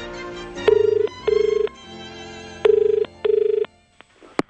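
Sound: rotary telephone bell ringing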